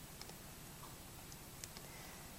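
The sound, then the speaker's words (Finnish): A few faint, sharp computer mouse clicks, some in quick pairs, spaced irregularly over a quiet background with no one speaking, as extra blog posts are removed from a website theme. “Kliketi, kliketi, klik, poistetaan se teemasta.”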